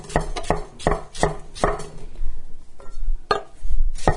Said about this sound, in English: And you can tell from the sound of my chopping has sped up and my precision is going out the window. So like the first half of the cucumber was like, oh, tiny little dainty slices. Now they're getting bigger.